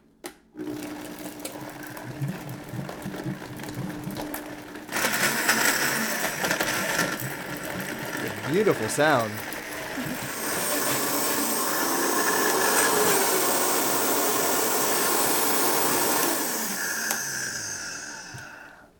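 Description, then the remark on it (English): A blender motor roars up loudly and whirs steadily for about twelve seconds, its pitch wavering slightly as it blends thick curry paste of shallots, garlic, basil and cilantro with a few splashes of coconut milk, then cuts off; a brief spoken remark comes just before it starts. “Okay, so just a few splashes of coconut milk into the blender to help it move along when you mm-hmm. blend it.”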